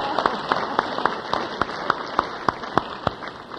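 An audience applauds steadily, a dense wash of many hands with sharper claps landing in an even, quick rhythm, as if some people clap in time together.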